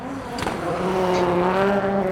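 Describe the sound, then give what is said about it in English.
A voice imitates a race car, making a sustained, revving engine drone with a brief squealing edge near the start, held steady and fairly loud for about two seconds. “I wanted to go for like a bit of a like more, you know, race car.”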